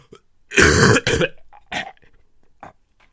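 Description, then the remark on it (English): A loud, wet cough bursts out twice in quick succession, followed by a couple of shorter, phlegmy throat-clearing hacks as snot is coughed up, with no talking. “It's coughed up snot.”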